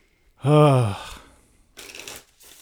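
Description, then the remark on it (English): A short, wordless vocal sound is followed by a brief, crisp burst of riffling as the 2018 tarot deck of choice is shuffled, lasting about half a second. “Shuffle's great.”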